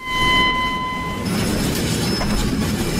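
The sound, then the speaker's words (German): A train pulls in, steady high metallic squealing from wheels or brakes over a loud, continuous rumbling clatter, the pitch of the squeal shifting partway through. “So beginnen Western. Ein Fremder steigt aus einem Zug.”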